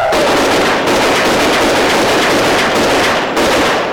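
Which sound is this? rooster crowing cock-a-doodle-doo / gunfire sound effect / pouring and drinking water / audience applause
gunfire sound effect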